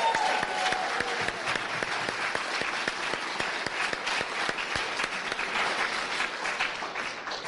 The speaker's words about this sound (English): And so for that, let's start off by giving them a huge round of applause.